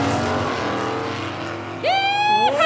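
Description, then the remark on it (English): A car engine drones steadily, then roars loudly as the car accelerates hard during a chase, its pitch surging upward and holding high, without any voices. “For a sensible car, this really has a kick!”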